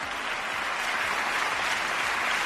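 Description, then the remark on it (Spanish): Sustained applause from a large crowd, a long ovation as Spain's head of state mentions the word unity in a speech; a dense, steady wash of clapping that holds at an even loudness throughout with no voices breaking through. “Continuó ese largo aplauso, esa larga ovación cuando mencionaba la palabra unidad para no generar división”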